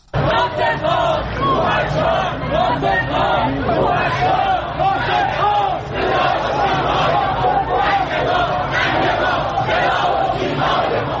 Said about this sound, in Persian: این فریاد مردمی است که روز یک شنبه در تهران ناصر ملک مطیعی بازیگر پیشکسوت ایرانی را تا خانه ابدیش بدرقه کردند. بنا به گزارش‌ها مراسم خاکسپاری این بازیگر در میان شعارهای اعتراضی برگزار شد.